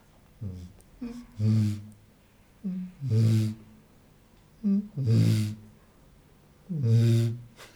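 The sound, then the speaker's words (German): A man's voice imitates a bittern's booming call: four low, hollow booms, each preceded by a short breathy intake, repeated at a steady pace with quiet gaps between them. “Ja, es gibt den Moorochsen, die Rohrdommel.”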